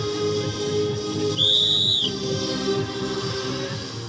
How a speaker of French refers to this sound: Votre jument, elle est moins stressée que vous ? Là, on l'entend. Peut-être qu'elle est un peu stressée quand même. Oui, elle est tout le temps stressée, mais elle joue bien le jeu.